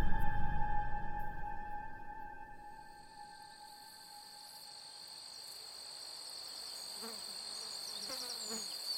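Crickets chirp steadily in fields and meadows on a hot summer morning, their high, sustained trilling layered over a soft rustle, with a low rumble fading out in the first couple of seconds.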